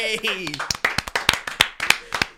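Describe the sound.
A steady run of sharp, crisp hand claps, roughly three per second, following a brief stretch of voice at the start. The claps are loud and dry with short, snappy attacks.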